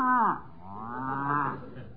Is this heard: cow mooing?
yes